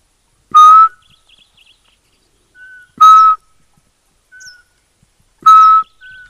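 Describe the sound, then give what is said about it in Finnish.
Three loud, clear whistled notes spaced evenly a few seconds apart, a person imitating the monotone call of a Eurasian pygmy owl, with faint small-bird chirps in the pauses. “Ei, kyllä mä uskon ilman muuta, että se reagoi siihen, kun mä tuossa viislailin varpuspöllön ääntä, niin kyllä nämä koiraat vastaa yleensä aina, kun niille viheltää.”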